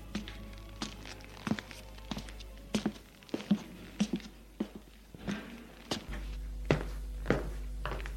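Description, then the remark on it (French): A mother, arriving with a doctor, knocks on a bedroom door: a series of sharp, irregular thuds and taps spread across several seconds, moderately loud over a low steady hum, with no voices. “Et en fin de journée, le médecin, un homme petit, maigre dans les 60 ans, cheveux gris, visage osseux, lunettes, costume gris, mallette, marron, accompagné de la mère, va frapper à la porte de la chambre.”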